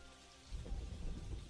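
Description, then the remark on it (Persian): Steady rain hisses across a surface while a low thunder rumble swells in about halfway through, deep and rolling beneath the patter. No voices are present. “لحظه‌های بارش باران رحمت الهی.”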